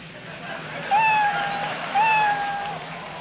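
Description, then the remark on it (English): A cat meows twice, each call a drawn-out, slightly rising cry lasting about a second, heard clearly over a soft steady background hiss. “Number 10, kitty.”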